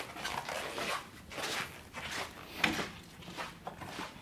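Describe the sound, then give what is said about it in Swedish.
Footsteps walk at a steady pace across a squeaky floor made of some special material at a workplace in Lund, each step bringing a soft creak or squeak, fairly quiet, with no voices. “Gnisslar när man går här på golvet.”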